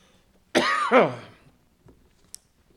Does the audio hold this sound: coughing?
yes